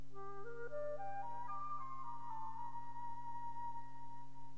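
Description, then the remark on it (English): A flute, playing the part of the owl in a musical telling of the story of the oak and the reed, plays a short melody that climbs in quick stepwise notes, then settles into a long held tone, over a steady low sustained accompaniment with no voices. “The owl by the flute.”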